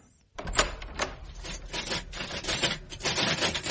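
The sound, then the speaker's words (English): A steady run of rapid mechanical clacks and taps, like keys being struck on a typewriter, starting abruptly after a brief quiet moment and continuing fairly loud. “Still typing”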